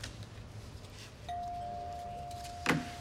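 A doorbell rings as a single steady electronic tone that holds for nearly two seconds over a quiet room, with a brief clatter near the end.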